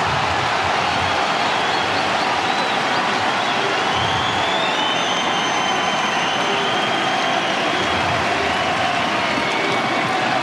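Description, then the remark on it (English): A tennis crowd cheers after Fonseca wins a point against Djokovic: a dense, steady roar of cheering and applause holds for about ten seconds, with high whistles drifting through the noise and no talking over it. “Well, let the crowd tell the story there.”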